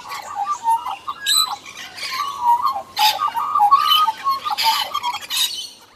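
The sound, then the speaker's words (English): A squawking bird toy sound effect: loud, shrill, warbling squawks and chirps sputter in quick irregular bursts for several seconds, harsh, with no talking. “So, without any further ado, guys, slap the bird. Let's begin.”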